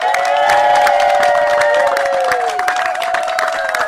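A crowd of neighbors and well-wishers cheers and claps loudly and steadily as a family is handed the keys to a mortgage-free home in Fort Pierce from the organization Building Homes for Heroes, with whoops and raised voices blending into a continuous roar throughout.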